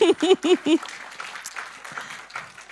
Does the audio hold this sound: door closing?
no